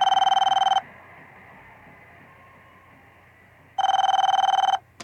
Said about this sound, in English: She detoured a few steps to answer the phone. McCabe wondered who would be calling on Thanksgiving Day.